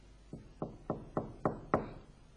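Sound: knocking on a door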